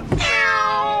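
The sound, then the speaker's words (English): A single drawn-out cat meow from a cat piano, fairly loud, opening with a short attack and holding a steady, harmonically rich tone for about a second with nothing else around it. “This is effectively a twist on the cat piano, but with human beings instead of cats as the sound-producing agents.”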